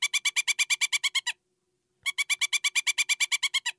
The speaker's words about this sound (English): Yes, this is the pileated or pileated woodpecker.